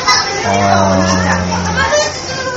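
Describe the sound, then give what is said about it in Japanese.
Children play and chatter in a busy, noisy place where people are eating, their voices overlapping in a steady background din, with one sustained low-pitched hum running through the middle. “さっきはね、みんな静かにもそもそご飯食べてたんだけど、子供が帰宅時間なのかな。”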